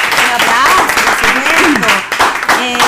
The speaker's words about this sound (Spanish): Un aplauso.